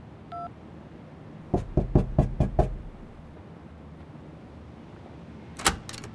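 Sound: knocking on a door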